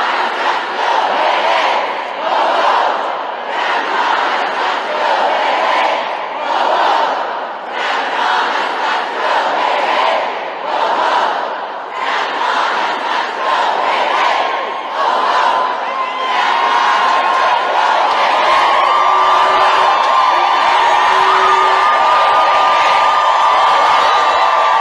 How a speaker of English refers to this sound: You can hear them for our audio listeners. In the background, you'll hear them screaming as they take over. And I'm not talking about one or two. I'm talking about hundreds of people. A Senate office building.